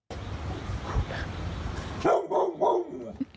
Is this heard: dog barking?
yes